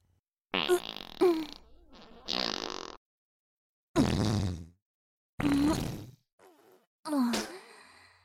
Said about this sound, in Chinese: 这里被我弄得这么臭了，居然还待得下去，居然还在这里放屁。哇，好臭啊，放的屁居然这么臭，是想和我比放屁吗？